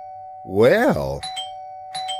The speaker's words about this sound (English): Well, the doorbell works. I actually fixed it. Boy, that's cool. I guess I better install this, because right now at the door I just have a couple of loose wires.